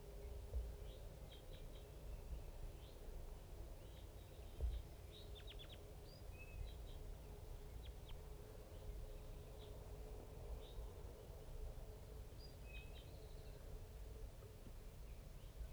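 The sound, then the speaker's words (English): A flock of about five crossbills give short, sharp high-pitched call notes in scattered bursts, often in quick pairs or clusters, fairly faint over a steady low rumble of background noise. No one speaks. “There's about 5 crossbills and a little flock of big guys just around here somewhere.”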